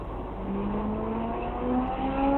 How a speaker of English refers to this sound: I know. But now there's car sounds.